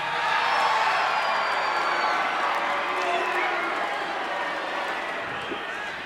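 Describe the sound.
A large audience booing at the mention of paying taxes produces a sustained, loud wash of crowd noise, a dense roar of voices that holds steady for several seconds before easing slightly at the end.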